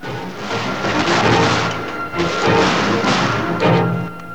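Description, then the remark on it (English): Shotgun blasts from a shooting party crack out in rapid, overlapping volleys, one after another with barely a pause between them, each man firing almost as fast as his servant can reload, while pheasants are shot down. Loud, with a dense, noisy echo hanging behind. “The shooting party blazes away and smoke swirls through the air, each man firing almost as fast as his servant can reload.”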